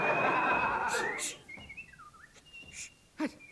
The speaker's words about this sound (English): The highly skilled whistling tune. It must be the noble Eccles.